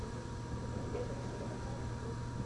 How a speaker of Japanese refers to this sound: 自動車。